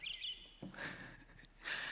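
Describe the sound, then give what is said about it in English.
Clear whistled cardinal song, a few sliding notes repeated in short phrases, heard fairly faintly with no talking. “And cardinals.”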